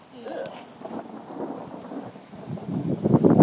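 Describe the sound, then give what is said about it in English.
Steady rain pours down in a continuous dense hiss, with a low rumbling undertone, growing heavier and louder toward the end. No one speaks. “I'm like standing in the rain and it's really wet now.”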